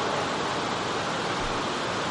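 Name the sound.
heavy rain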